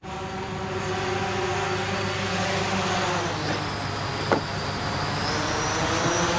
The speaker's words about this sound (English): Amazon Prime Air. Deliver your item in 30 minutes by drone. As an Amazon drone here buzzes through the sky over fields and rivers before dropping off a package at the customer's front door.